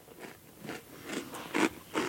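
Someone chewing food close to the microphone, a steady series of wet, crunchy bites repeating roughly twice a second, with no talking.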